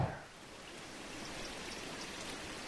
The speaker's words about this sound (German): Dennoch hat man am Ufer der Parthe im Leipziger Norden bereits ein Gefühl von unberührter Natur. Der kleine Bach schlängelt sich zwischen Wiesen, nur hin und wieder wird vom Wind der Verkehrslärm